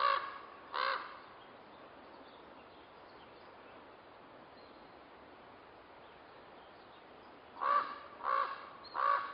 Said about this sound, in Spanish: Desde siempre, los cuervos han sido mi despertador. Tal vez, lo primero que recuerdo es su graznar. Todos los días, sin excepción, graznan cuando sale el sol.